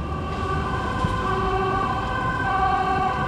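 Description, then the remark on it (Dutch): A steady, loud emergency vehicle siren drones on without a break near the Stopera, its tone holding level over a low rumble of traffic, with no one talking. “Zo, waar jij maar komt, gaat de sirene af.”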